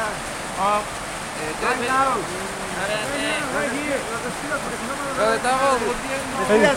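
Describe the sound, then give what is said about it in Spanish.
Heavy rain pours down in a steady, dense hiss that never lets up, while people talk over it throughout. “¡Nos vemos, porque está lloviendo muy duro!”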